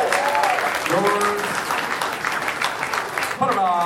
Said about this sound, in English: Round one, give him a round of applause.